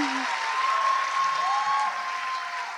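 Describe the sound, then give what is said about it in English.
An audience claps steadily for a few seconds, a dense, even wash of many hands at fairly constant loudness, with a faint whistle-like tone threading through and no talk over it. “There's too much clapping. It's too much clapping.”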